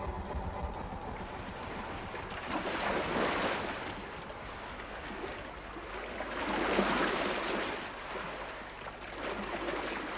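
Gentle waves wash in with a soft sea breeze off the coast at the border of Italy and France, the hiss swelling and easing in slow surges over a steady low rumble, with no voices present.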